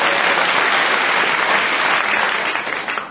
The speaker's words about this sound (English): Give her a... No, she lost. Don't give her any applause. Give the other three applause.